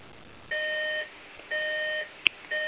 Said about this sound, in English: Sorry, that's my husband's alarm. It'll go off in a minute.